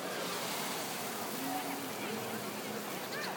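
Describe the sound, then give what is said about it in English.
Outdoor showers on a packed beach in San Sebastian, used by people to rinse off salt water after the sea, run nearby in a steady, unbroken hiss of spraying water, with faint voices murmuring in the background. “Near me, you can hear the showers, so the people can clean after going to the sea, clean the salt water.”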